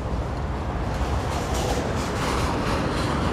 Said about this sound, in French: Et la gare de RER.